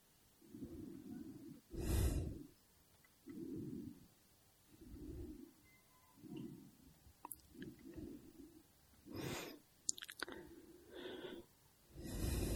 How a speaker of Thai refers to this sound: นี่ลมหายใจเข้าลมหายใจออกไม่มีผู้หายใจมันเป็นเองของมันเป็นธรรมชาติของกาย